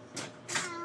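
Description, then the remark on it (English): A child's voice gives a breathy, drawn-out meow imitation in answer to being asked what a kitty cat says: a short airy burst followed by a longer, steadier voiced tone, fairly quiet. “Meow. That's a cat.”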